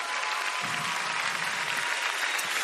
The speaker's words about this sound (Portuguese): Amém! Pode aplaudir Jesus bem forte.